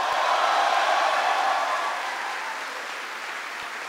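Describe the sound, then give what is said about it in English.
A crowd applauds steadily for Army Specialist Courtney Newby after her introduction, at an event in the Republic of Korea. It is a dense wash of many hands clapping at once that holds strong before tapering slightly toward the end, with no voices over it. “Give another round of applause to Army Specialist Courtney Newby for the great introduction.”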